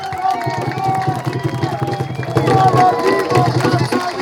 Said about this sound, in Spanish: Pues le pasamos el micrófono a un compañero del pueblo, de la colonia Santo Domingo. Démosle un aplauso, por favor.